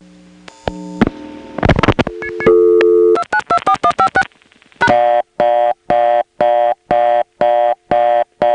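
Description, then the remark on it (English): A quick run of touchtone digits beeps out over a telephone line tone as they are dialed into a touchtone converter, then a loud, fast-pulsing reorder tone takes over immediately, its steady on-off bursts repeating until the end. “The touchtone converters go to an immediate reorder if you dial star or pound, and that's even true if you dial it at the end of a phone number before the rotary dialing is complete.”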